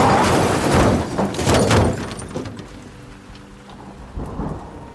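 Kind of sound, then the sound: nature, heavy rain with thunder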